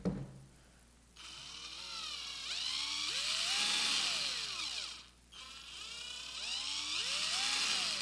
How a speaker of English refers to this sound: What is this? It's a variable speed drill. Sometimes you use this working on your house or something, and you also, the dentist uses it on you every now and then. Okay, variable speed.